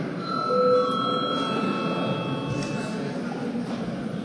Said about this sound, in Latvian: Līdz ar to, kolēģi, reģistrēsimies. Lūdzu, zvanu.